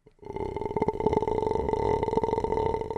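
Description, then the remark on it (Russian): About three seconds of throat singing in the style called zelenger or berbender, as children do it: a low, gritty, rattling drone with uneven crackling pulses, a voice imitating the clatter of rolling stones. Steady and fairly loud, with no talking. “Есть так, как дети делают, это зеленгер или бербендер, когда катящиеся камни. Он похож на, действительно, звук камней.”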